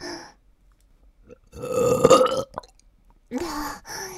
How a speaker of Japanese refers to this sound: もっとザーメンゲップしろ。